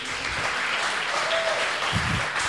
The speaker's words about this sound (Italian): Lo dico, no, è il secondo che ti fanno, uno fuori camera, uno a favore di camera. Un applauso pure tu.